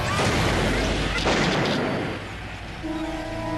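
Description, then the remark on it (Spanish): A single pistol shot, fired by an attacker at a woman, cracks out amid a dense, rumbling noise bed, followed by fading reverberation and a steady low humming tone toward the end. “Finalmente, su agresor sacó una pistola y disparó contra ella.”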